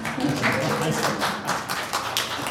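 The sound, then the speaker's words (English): An audience applauds steadily after a song is performed, a dense wash of many hands clapping at a constant, fairly loud level, with faint voices mixed in underneath. “So feel free to applaud.”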